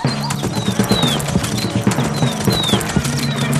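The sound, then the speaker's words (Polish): Horse hooves clip-clop in a steady, quick rhythm over a low droning tone with faint high chirping whistles in the background. “To taki dźwięk kopyt końskich.”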